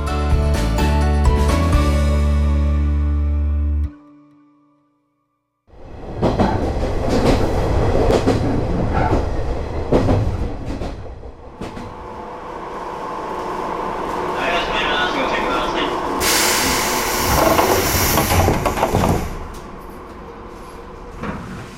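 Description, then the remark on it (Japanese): A train on the Shinonoi Line in Japan, travelling from Matsumoto toward Hijiri-Kogen Station, rumbles along the rails with a rhythmic clatter, broken by a brief silent gap, then resuming loudly with steady mechanical noise and a higher whine near the end. “そこであまり知られていない地域の魅力を伝えるため、篠ノ井線に乗って旅をしていきたいと思います。”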